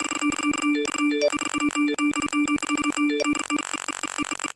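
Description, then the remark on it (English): A phone ringtone chimes over and over in rapid succession as the phone is flooded with notifications after a video is posted, bright electronic tones stacking into a loud, nonstop flurry of rings with no one speaking. “What he did is he said, this is what my phone would sound like or will sound like when I post this video.”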